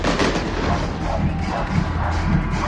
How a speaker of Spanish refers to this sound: Mientras escuchamos los fuegos artificiales, porque hay que dejarlo ahí,